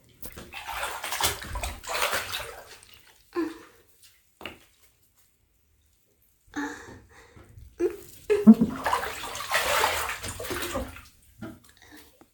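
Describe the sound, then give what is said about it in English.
Bath water sloshes and splashes in two longer surges separated by a quiet pause, with a few short drips and small splashes in between; no one speaks. “You want to see me drip this water all over my body?”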